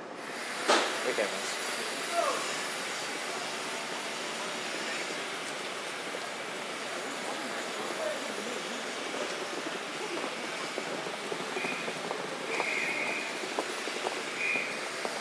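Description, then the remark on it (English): Building works on the adjacent platform at a railway station: a steady wash of noise, punctuated by a few sharp metallic clanks early on and brief high-pitched mechanical whines toward the end. “The sound that you can hear are the building works on the adjacent platform.”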